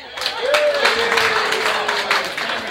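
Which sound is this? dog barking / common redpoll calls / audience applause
audience applause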